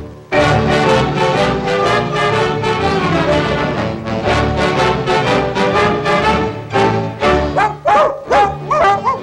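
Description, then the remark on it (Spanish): A female hunting dog with its snout to the ground barks and yips in a rapid, nearly continuous stream, loud, with a few higher, whiny yelps toward the end. “Con el hocico pegado a la tierra, huele que huele, viene la perra, siempre siguiendo la pieza mejor para su dueño, el cazador.”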